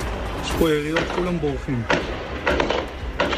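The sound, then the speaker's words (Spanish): Gunshots crack in the background, several sharp bursts spaced irregularly, some in quick pairs, after a raised, tonal voice calls out. Attackers who boarded a bus at a stop are firing at will, recorded on a mobile phone by a local resident. “Un vecino de la zona estaba grabando con su móvil sin saber lo que estaba pasando en el momento en que vamos a escuchar de fondo los disparos.”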